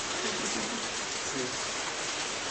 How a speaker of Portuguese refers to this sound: Alguém está pegando a chuva? Vocês querem mudar?